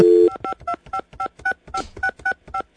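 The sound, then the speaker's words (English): A steady dial tone gives way to a quick run of about a dozen touch-tone beeps as a phone number is dialed to call Bill Belichick, each tone a short paired-pitch chirp in even rhythm, with no talking. “Let's call him up. Let's call up Belichick.”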